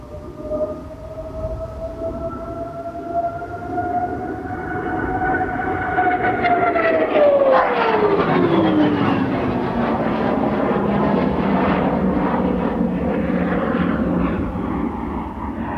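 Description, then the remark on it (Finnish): A propeller fighter aircraft takes off and roars past, its engine whine rising in loudness and then dropping steeply in pitch as it passes and climbs quickly away, leaving a broad sustained rumble. “Tämä on miellyttävä lentää. Se menee, lähtee ripeästi, nousee kuin ampiainen ja menee kovaa.”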